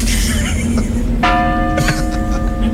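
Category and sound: sound effect, tolling church bell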